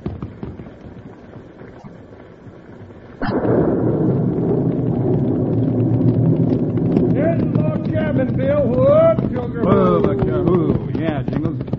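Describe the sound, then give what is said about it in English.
Horses galloping off, a loud, dense rumble of hoofbeats that bursts in abruptly after a quieter start and keeps churning steadily, with voices or cries rising over it near the end. “We thought we heard shots. Some horses running away.”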